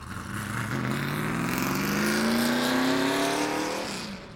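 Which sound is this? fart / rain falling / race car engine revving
race car engine revving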